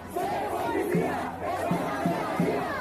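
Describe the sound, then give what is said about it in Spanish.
Protesters in front of a police station in Zaragoza, Spain, protesting the death of George Floyd, chant a rhythmic slogan in unison, many voices shouting together in steady repeated bursts, loud and continuous with no single speaker standing out. “con estos gritos criminalizan a todos los cuerpos policiales de seguridad”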